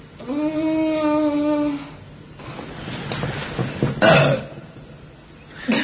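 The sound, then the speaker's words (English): A long, drawn-out burp rumbles loudly for over a second, followed by scattered rustling and a couple of sharp bumps. “Dude, we're gonna do clips of you burping.”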